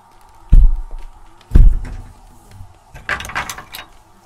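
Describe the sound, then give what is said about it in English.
Two heavy, low thumps land about a second apart, like a body bumping into a wall, followed by a short burst of lighter rattling and scraping. “Sounds like I'm bumping into a wall. Thump.”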